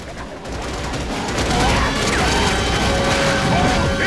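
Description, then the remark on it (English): Loud, dense gunfire as troopers Rico and Diz spray a bug with shots, a rapid, continuous barrage, its overlapping shots blurring into a harsh roar for several seconds, with a few thin whining tones threading through the noise. “Rico and Diz spray the bug with shots and it writhes and dies.”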